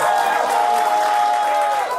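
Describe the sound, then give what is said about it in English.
A late-night show audience roars with cheers and whoops over steady clapping, making noise to vote "fuck them", loud and dense throughout, with a few voices shouting above the noise. “If you vote fuck them, make some noise.”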